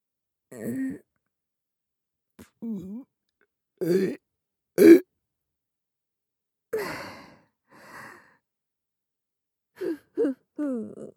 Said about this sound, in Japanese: お下品ゲップ3連発。